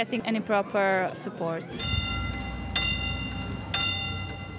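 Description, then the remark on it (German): A voice talks briefly, then a railway crossing bell clangs twice, about a second apart, over a low steady rumble as the barrier closes in the Croatian border village of Ključ Brdovečki for an approaching train carrying about 1000 refugees toward the Slovenian border. “Im kroatischen Grenzort Ključ Brdovečki geht die Schranke zu.”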